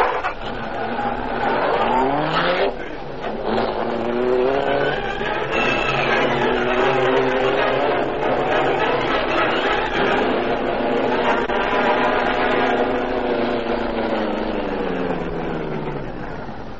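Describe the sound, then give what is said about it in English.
A car engine roars, revving and accelerating through several rising pitch sweeps as the car pulls away from a driveway, staying loud throughout and easing off slightly at the end. “He's going toward a car on the driveway.”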